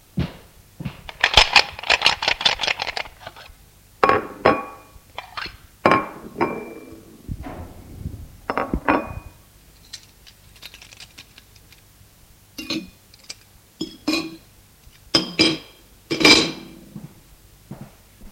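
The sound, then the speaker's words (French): Plates and cutlery clink and clatter as a table is set for a meal, with irregular bursts of ringing knocks separated by short quiet pauses; no one speaks. “Gwen se proposa à mettre les couverts.”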